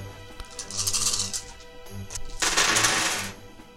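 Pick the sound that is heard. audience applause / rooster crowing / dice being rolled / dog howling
dice being rolled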